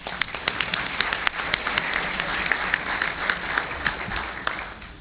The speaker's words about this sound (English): I'd like to break the rules here and ask you all to give her a big round of applause.